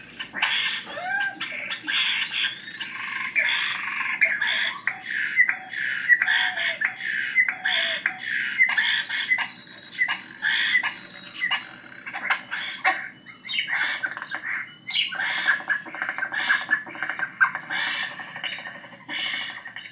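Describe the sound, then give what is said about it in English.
A dense, continuous jumble of European starling calls and squawks, with whistles, rasps and chatter layered over one another for the whole stretch, no voices present. “Here's a typical sound that they make.”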